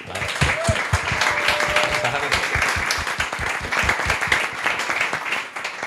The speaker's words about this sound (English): So big round of applause, please. Oh my God, this applause is amazing. It's going to sound great on the audio, isn't it? I love this.